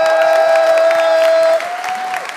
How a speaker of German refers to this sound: Ich habe gesagt, einen kleinen Applaus.